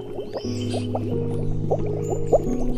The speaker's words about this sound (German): Abtauchen. Und lang ausatmen durch den Mund, so dass die Blubberblasen blubbern.